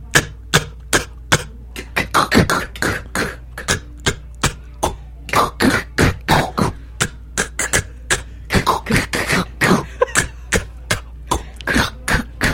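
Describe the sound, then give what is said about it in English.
A voice beatboxes a snare drum by saying just the K sound of 'cat', sharp, breathy 'K' bursts, dozens of crisp clicks fired off in a quick, uneven rhythmic pattern, fairly loud, with no talking in between. “Snare is real simple, all right? Say cat, cat, cat. Now emphasize on the K.”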